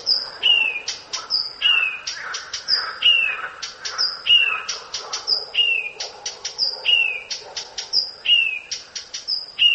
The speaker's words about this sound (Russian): Вот, допустим, садовая камышовка поет на многих голосах, но обязательно перед каждым коленом вставляет чек-чек. И самочка летит на этот чек-чек.